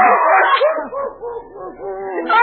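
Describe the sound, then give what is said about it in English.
A dog barks and yips in a quick, unbroken string of short, high, whiny cries while chewing up a hat, fairly loud, with no one talking. “He chewed up all my cigars. And look, my new hat. He's eating my hat. Stop it, you dog.”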